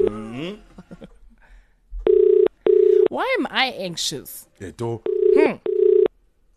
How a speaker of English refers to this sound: Okay, we've got a ringer. Let's see. The phone is ringing.